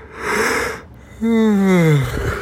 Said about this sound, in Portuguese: Bocejei de novo.